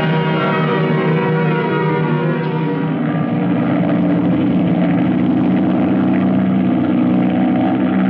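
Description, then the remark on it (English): A propeller airplane engine drones steadily and loudly throughout, a dense, unbroken roar with a throbbing low hum, from a plane in flight heading back to base. No voices. “Let's get this plane back to base.”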